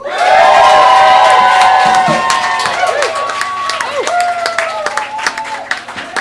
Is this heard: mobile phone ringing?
no